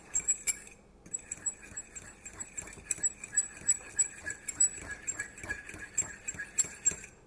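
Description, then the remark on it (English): A fork whisks egg, liquid egg substitute and a little water in a cup for an omelet, making a rapid, steady series of light clinks and taps against the sides, fairly quiet, with no talking. “Mix that all together.”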